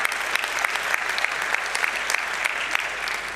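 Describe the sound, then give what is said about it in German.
An audience claps steadily for a few seconds, a dense, even patter of many hands with scattered sharper claps standing out, moderately loud and without any voices. “Ja, kann man auch mal klatschen.”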